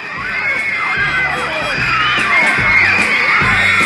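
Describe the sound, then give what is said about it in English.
A dense roar of high-pitched screaming from thousands of teenage girl fans of a band, loud and continuous, with shrill shrieks rising over the din and low thumps underneath. “For the thousands of screaming manly teenage girls, it was beyond the music.”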